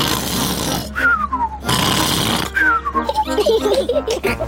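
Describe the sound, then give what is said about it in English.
Daddy Pig imitates Uncle Pig's loud snoring after lunch: two cycles of a rough, raspy snort followed by a descending whistle, then a wobbly hum. Cartoonish, with no talking. “Uncle Pig always eats too much lunch and falls asleep, snoring loudly, like this.”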